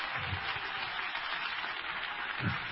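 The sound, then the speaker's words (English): A crowd at a worship service claps steadily at a preacher's urging, the many hands blending into a dense, continuous wash of crackling sound, with a few low murmurs of voices underneath. “While you're clapping your hands, turn to somebody. Keep clapping them.”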